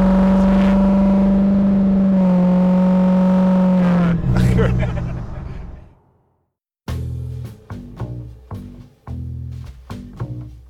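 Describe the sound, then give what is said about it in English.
A heavy diesel pickup truck engine drones steadily, then roars in a surging rev before cutting out; after a brief silence, it snaps through a series of short, punchy revving bursts. “it's his truck.”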